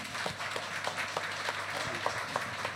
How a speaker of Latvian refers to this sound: aplausi, dāmas un kungi!